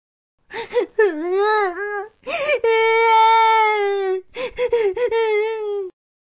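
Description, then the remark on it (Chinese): A voice acts out the loud crying and sobbing of a young dinosaur character running to its mother: several choked, wavering bursts, then a long sustained wail, and a few more broken sobs trailing off. “慈母龙妈妈听到了哭声。”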